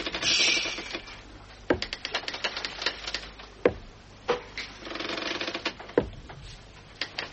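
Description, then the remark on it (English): Slow, heavy taps of a solid ivory peg leg, made from a sperm whale's jaw, on a wooden deck: three sharp knocks spaced about two seconds apart, over a steady background of creaking and clattering. “Yes, and you'll soon hear it tap, tap, tapping along the deck at night.”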